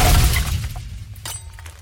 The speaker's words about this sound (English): We all turned to see Benjamin had pulled a frozen drink machine to the ground and was attempting to drag it over Spencer towards the front door.